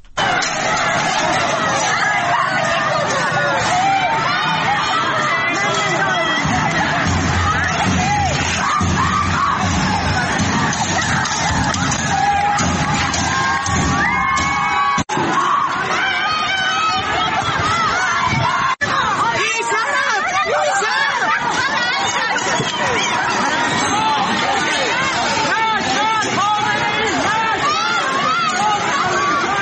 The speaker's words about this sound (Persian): در اردبیل ویدیوهایی از محله سرچشمه اردبیل منتشر شده که مردم دارن شعار بی شرف که این روزها همه جا داریم میشنویم و سر میدن مرگ بر خامنه ای میگن و ماموران هم تلاش دارن بر اساس این ویدیوها با موتور متفرق بکنن جمعیت رو. ما صدایی از اردبیل هم داریم اینجا.